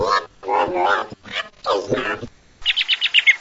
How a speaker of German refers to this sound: Frieda, dich schmuggeln wir ins Oval Office. Und da darfst du ganz laut krähen: Militär gehört abgeschafft!